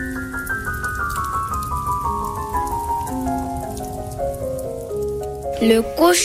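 Steady rain patters on a hard surface throughout, a dense crackling wash, mixed with sustained melodic tones that slowly drift downward, a brief louder burst near the end.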